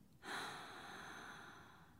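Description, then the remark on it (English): A single slow, airy exhale, a person breathing out during a relaxation breathing exercise, starts suddenly and then streams out steadily for about two seconds, soft and breathy, with no talking. “Breathe in and breathe out.”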